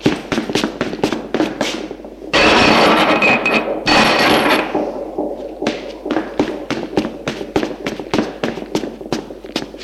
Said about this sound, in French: La barre qui se trouve là, qui tient par un crochet, qui maintient la porte de l'église ouverte. Il court la chercher.